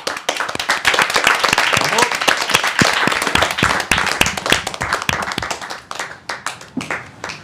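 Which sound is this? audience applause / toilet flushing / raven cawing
audience applause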